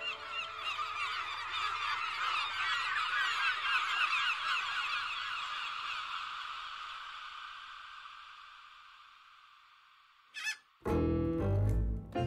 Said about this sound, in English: Squawk!